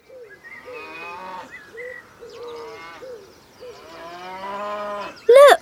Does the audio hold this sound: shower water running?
no